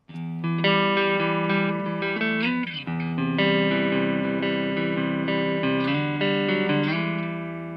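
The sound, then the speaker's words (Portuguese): A clean electric guitar, played through the clean channel of a preamp, plays sustained, ringing chords on its own, steady and fairly loud, changing chords several times, with a brief strummed break near the middle. “Vamos começar aqui com a guitarra limpa.”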